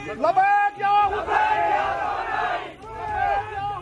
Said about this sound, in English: He also raised the photo of Lieutenant General Qasem Soleimani and the leader of the Islamic Republic, Ayatollah Sayyid Ali Khamenei, as the crowd were heard and seen chanting slogans.